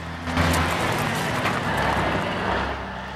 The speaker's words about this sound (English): A dustbin lorry tips out more bags on top of him, then drives off.